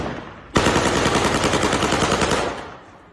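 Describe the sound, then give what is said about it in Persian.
A rapid, sustained burst of automatic gunfire rings out for about two seconds, loud, with sharp repeated cracks before trailing off into echo, as a man in Bakhtiari clothing fires into the air in Izeh. “به نشانه وجود افراد مسلح در ایزه، شخصی با لباس بختیاری تیراندازی هوایی می کند.”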